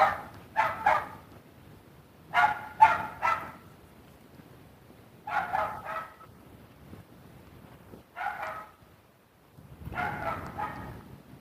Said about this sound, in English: Well, my neighbor has a yappy dog. That's not like he's barking at me. I don't know what he's barking at. Probably a rabbit in a neighbor's yard or something.